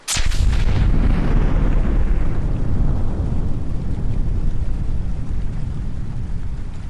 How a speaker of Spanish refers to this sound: Después de la gran explosión, los estallidos se produjeron casi de continuo.